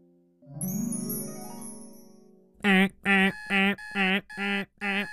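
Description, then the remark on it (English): A chiming, jingly intro gives way to an alarm clock going off at 4:30 a.m., ringing in six loud, evenly spaced bursts, each a sharp buzzing tone with short gaps between. “and Alabaster Zero's alarm clock was going off at the start of a brand new day.”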